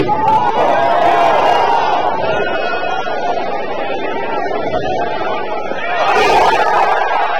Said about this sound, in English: This is a tee shot and a putt It just listen to the crowd noise. It sounds like a Stanley Cup final.